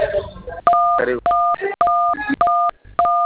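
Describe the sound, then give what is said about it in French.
A series of loud telephone keypad tones, four or five steady two-pitch beeps in quick succession, with brief bits of muffled speech between them, as a caller presses phone buttons during a customer service call about resetting a Mobile Money password. “Évitez de toucher les boutons de votre téléphone, s'il vous plaît, monsieur.”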